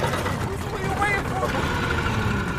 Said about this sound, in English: Its blades churn the water white as the boat gains momentum.